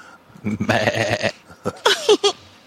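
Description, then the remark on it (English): A sheep lets out a long, wavering bleat, followed by a few shorter, quavering bleats, loud with brief pauses between them. “Bunch of sheep.”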